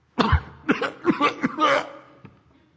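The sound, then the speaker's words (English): A man fakes a cough on a crowded tube train in the morning: a series of four or five forced, throaty coughs in quick succession, moderately loud, with no talking. “So what does he do? Simple. He starts to cough.”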